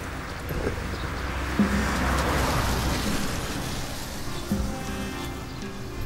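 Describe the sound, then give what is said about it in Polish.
Steady outdoor road noise on a village road in Gola, near Szlichtingowa and Głogów, Poland, with a car swelling past midway, its broad whoosh rising and fading over a low rumble; no voices. “Uwaga na samochody, uwaga.”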